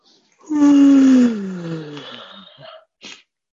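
A loud, drawn-out yawn while stretching, its voiced pitch sliding downward for about two seconds before fading into a breathy exhale, followed by a quick short breath, with no talking.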